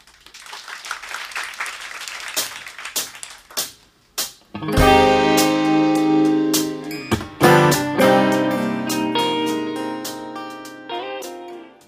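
Scattered applause and clapping die down, then a slow, mellow song begins, with sustained harmonic chords ringing out steadily and a brief swell partway through. No one speaks.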